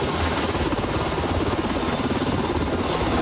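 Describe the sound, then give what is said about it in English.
A National Guard Black Hawk helicopter rotor chops steadily and loudly while searching for a woman swept into Havasu Creek by flash floods at Grand Canyon National Park, a rapid rhythmic thumping over a dense, continuous engine roar, with no voices. “The National Guard now using a Black Hawk helicopter and some boats to search for a 33-year-old woman still missing after getting swept into Havasu Creek by flash floods at Grand Canyon National Park.”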